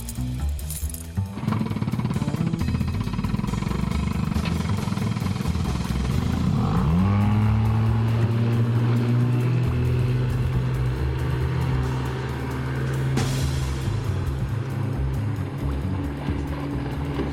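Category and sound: vehicle, motorboat engine revving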